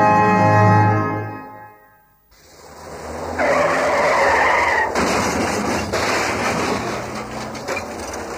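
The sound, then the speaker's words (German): A loud, sustained tire skid with a harmonic screech fades out, then a crunching crash of metal follows, with grinding and rattling debris continuing afterward; the driver had changed lanes without signalling. “Er hat ohne vorheriges Zeichen die Spur gewechselt.”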